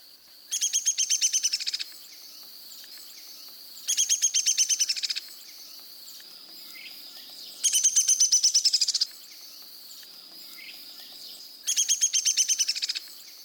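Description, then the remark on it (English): A downy woodpecker gives its descending whinny four times, each a rapid run of sharp notes sliding downward in pitch, spaced a couple of seconds apart, clear. “The downy woodpecker has a descending whinny.”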